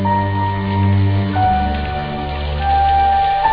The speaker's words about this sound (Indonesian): hujan besar mengguyur kota Bandung malam itu. Mau tak mau, kami semua menunggu hingga hujan reda.